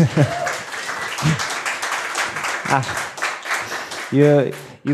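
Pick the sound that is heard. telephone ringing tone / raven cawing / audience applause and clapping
audience applause and clapping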